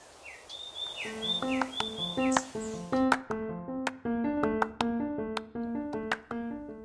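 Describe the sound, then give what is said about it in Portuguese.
Quick, sweeping bird whistles and chirps ring out over the first couple of seconds, layered on a bright plucked melody that carries on alone afterward with steady rhythmic notes. “Além, é claro, de ouvir também o seu lindo canto.”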